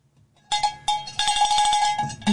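A cowbell rings out with a few spaced, loud metallic clanks, then breaks into a fast run of repeated strikes, its bright, hollow tone ringing between hits.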